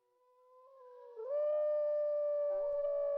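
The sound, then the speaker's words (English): A single long wolf howl rises steadily, swelling from a soft start to a loud, sustained tonal wail that holds its pitch with a slight waver near the end. “Wolves are important animals in the traditions and stories of most Native American tribes.”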